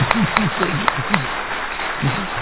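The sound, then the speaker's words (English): An audience applauds steadily in a dense wash of clapping, with a few sharper claps standing out at an even pace early on and indistinct voices murmuring underneath. “We give them a big applause.”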